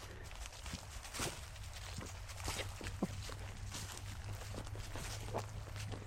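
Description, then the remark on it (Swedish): Footsteps crunch over oak acorns scattered on a path through a green leafy tunnel, a steady walking rhythm of sharp, brittle cracks, with a faint low hum underneath and no talking. “Visst är det härligt att trampa på ekollon här på stigen?”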